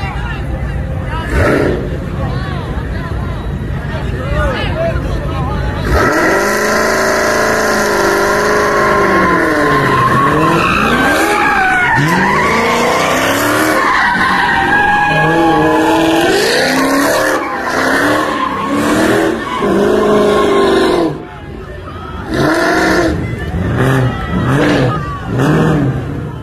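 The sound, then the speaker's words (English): Tires screech in long, wavering squeals as cars spin donuts in a downtown intersection near Beale Street and the Peabody Hotel on a Sunday, with engines revving and a crowd murmuring and shouting; the squealing dominates the middle stretch before fading back to crowd noise. “The cars are literally in the intersection doing the donuts, and they've got thuglings, and thuglings are little thugs.”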